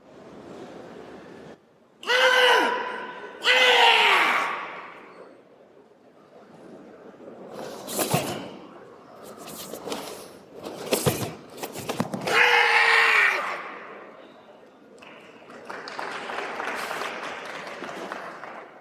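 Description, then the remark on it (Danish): Karate fighters let out sharp, loud shouts, several harmonic yells rising and breaking off in quick bursts, followed by a spell of light applause from four people clapping. “Lad os lige prøve at høre lidt fra karate.”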